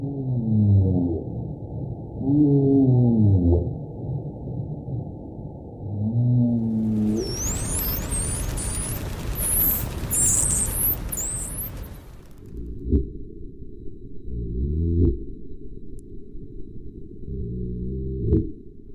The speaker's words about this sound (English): Those beautiful, haunting sounds were the calls of the humpback whale, the Atlantic spotted dolphin, and the gray seal.